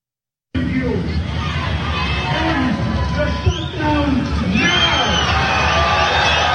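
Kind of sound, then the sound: crowd, crowd chanting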